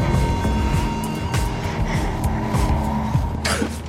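Dense, steady traffic roar fills the scene, with engines rumbling close by, passing vehicles whooshing and a brief sharp hiss near the end, all loud and continuous.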